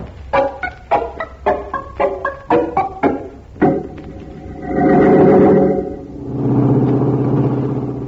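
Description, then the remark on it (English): A truck engine chugs in quick rhythmic bursts, then settles into a loud, steady rumble that swells and holds as the vehicle drives along, with no voices. “In a few minutes, we'll have this truck right in the middle of our district.”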